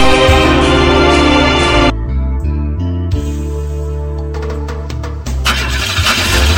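A car engine starts up loudly and runs with a steady, throaty hum that shifts in pitch a few times, with no one talking.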